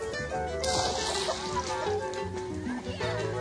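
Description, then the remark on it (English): A splash bursts out early on as boys dive into the Jamuna River after frogs, then sloshing continues beneath a busy bed of voices and tonal sound that carries on throughout. “And when out of fear the frogs jumped in the water, the boys immediately dove in after them.”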